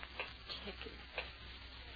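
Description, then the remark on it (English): A clock ticks faintly, a few soft, slightly uneven clicks against a low steady background hum. “Ticking. Yeah, I know. I've been sitting here listening to it.”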